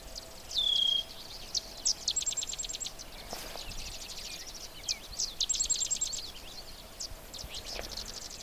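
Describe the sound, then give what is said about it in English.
Many sedge wrens give rapid, dry chipping and chattering calls from a distance, overlapping in a continuous chorus over a quiet outdoor wetland background near a brushy alder patch, with no single bird standing out close by. “There's also the sound of sedge wrens. The place is just full of sedge wrens.”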